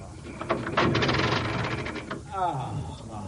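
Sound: car engine cranking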